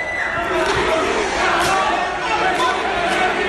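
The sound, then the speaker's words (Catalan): A cinema audience at a film festival screening shouts and jeers insults at once, a dense, steady roar of indistinct yelling with occasional louder cries rising above the din. “És a dir, aquests crits, no només li deien cabró, li deia coses més grosses.”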